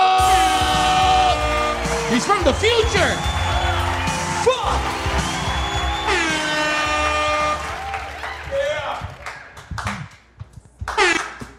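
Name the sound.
audience applause and cheering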